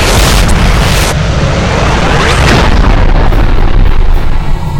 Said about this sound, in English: I heard the blast of them Rusky bombs and waited till the mushrooms blowed away.